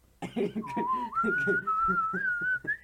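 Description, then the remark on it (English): Someone whistles a short, wavering tune close to the microphone, the melody sliding up and down in one continuous breath while a muffled voice murmurs underneath. “Are you gonna whistle into the microphone?”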